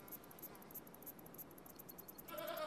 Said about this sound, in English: What are they, Horsey? They're goats, Bella. They're our friends.